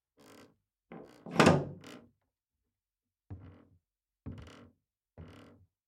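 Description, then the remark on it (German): A door bolt is slowly slid to lock the door: a few scraping, rattling clunks, the loudest early on, then three separate, evenly spaced metallic knocks, with quiet gaps between them. “Jetzt hörte Magdalena deutlich, wie er über ihr den Riegel der Tür langsam verschloss.”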